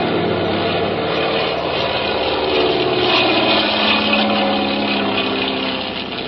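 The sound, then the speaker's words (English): A loud, steady engine roar with a droning propeller buzz fills the whole stretch, holding constant as a small plane takes off, with no voices. “Well, I guess we can take off.”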